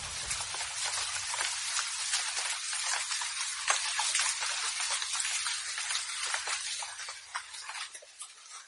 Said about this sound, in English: It's the rain. Pitter, patter, go the raindrops. It's the sound of the rain as it falls on the pavement and splatters down the gutters.